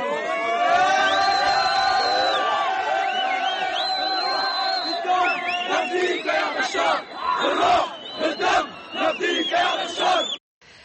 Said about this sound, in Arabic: شارك في المظاهرات طلاب وموظفون مرددين هتافات مناوئة للولايات المتحدة وحاملين صورا للرئيس السوري بشار الأسد.